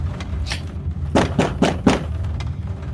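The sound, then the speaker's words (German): Four firm knocks on a door in a quick, even rhythm, thudding over a low steady background hum, with no one speaking. “Ich klopfe an die Tür.”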